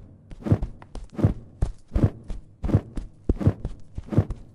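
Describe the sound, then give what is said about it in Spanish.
Heavy, evenly spaced running footfalls thud along in a steady rhythm, about six strong impacts with lighter scuffs in between, fairly loud, with no voices, as a person runs alongside another. “Voy corriendo a su lado.”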